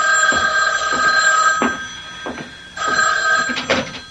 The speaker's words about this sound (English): But before I could follow the thought through, the phone rang.